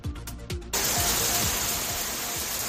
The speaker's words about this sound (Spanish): La lluvia, que sigue sin dar tregua. La peor parte del temporal se la está llevando a Andalucía.